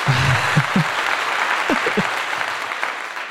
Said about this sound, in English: my fun little clappy applause is on my soundboard